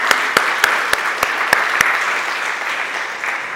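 A crowd applauds steadily, a dense wash of clapping with a few sharp, louder individual claps standing out early on before the sound settles into an even patter.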